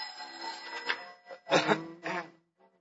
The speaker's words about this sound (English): Oh, excuse me. There's the bar phone.